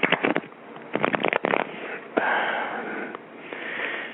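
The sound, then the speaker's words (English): Tarot cards being shuffled for a reading: quick bursts of crisp, papery flicks in short clusters, then longer, steady rustling swishes as the deck slides together. No one speaks. “Okay, we will do a reading based on that question. Finding a home. Find a home soon. I'm shuffling now.”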